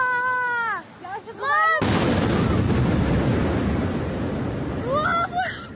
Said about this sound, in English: And just a heads up here, we're about to play a few seconds of sound of an explosion and a frightened bystander. The cell phone video is taken before dawn in Moscow's business district.